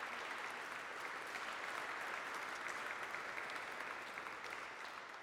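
Sustained applause from a crowd, a dense, steady wash of many hands clapping at even loudness for about five seconds, with no speech over it.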